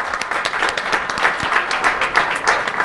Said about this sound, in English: Round of applause